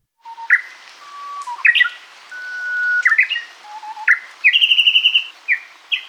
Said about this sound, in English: Japanese bush warblers are small, mostly brownish songbirds with a distinct white eyebrow or superciliary line above their eyes. Because they spend most of their time in dense understory vegetation, they're really hard to see, but it's their loud